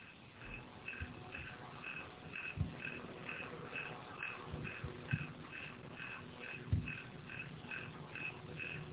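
A faint, steady cricket-like chirping from an electric fan repeats in an even rhythm throughout, with a few soft low thumps and rustles underneath and no one speaking.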